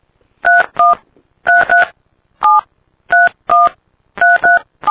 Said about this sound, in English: Please enter your 10-digit phone number starting with the area code.